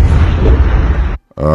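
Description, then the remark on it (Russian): Loud, deep booming explosions roll together into a heavy, continuous rumble for about a second, then cut off abruptly; after a short silence a sustained, humming tone begins. “Такие бум-бум-бум, начинают идти взрывы.”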